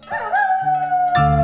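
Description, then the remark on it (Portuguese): An approaching wolf howls in one long, sustained, mournful note that slides gently downward in pitch. It is loud, with a deeper rumbling tone joining in underneath toward the end. “Mergulhado nos seus pensamentos, Pedro nem se deu conta de que um lobo se aproximava.”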